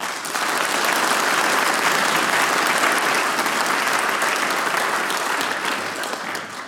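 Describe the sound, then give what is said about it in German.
An audience in Veitsch applauds the chairman of the Werkskapelle Veitsch and his team for the event. The applause is dense and sustained, steady and fairly loud for several seconds before tapering slightly at the end, with no voices standing out. “Nochmal einen großen Applaus an dich und dein Team.”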